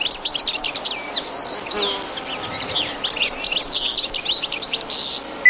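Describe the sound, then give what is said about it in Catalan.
A European goldfinch (Carduelis carduelis) sings a rapid, continuous stream of bright twittering and tinkling notes, clear, with a faint buzzy background hum throughout. “Cadernera. Carduelis carduelis. Au resident tot l'any als camps i zones de conreu.”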